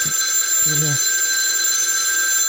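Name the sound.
telephone bell ringing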